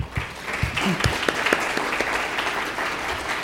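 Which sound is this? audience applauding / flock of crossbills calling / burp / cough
audience applauding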